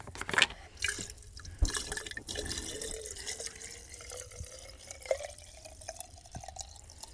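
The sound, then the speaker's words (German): Gasoline gurgles and glugs as it's poured into a chainsaw tank during refueling, an irregular liquid bubbling with a rising fill tone and occasional drips and clinks, no voices. “Und betank jetzt mal meine Kettensäge. Benzin und Öl. Das Öl ist relativ geräuschlos. Benzin blubbert.”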